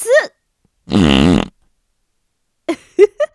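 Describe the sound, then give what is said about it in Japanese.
A loud, buzzy fart of about half a second rings out clearly, bracketed by brief breathy vocal sounds before and a few short gasping voice bursts after. “その度にくっさいおならで目覚ましてあげるから。”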